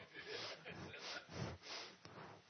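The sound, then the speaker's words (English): A voice mimics snoring with a few rough, rasping snorts and breathy inhales, repeated in a slow rhythm, fairly loud, with no words spoken. “Then you listen over there snoring away.”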